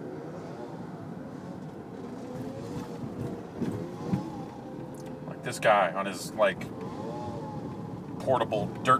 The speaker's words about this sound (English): portable motorbike thing that looks like a BMX bike, but has some kind of motor on it, or the size of a BMX bike.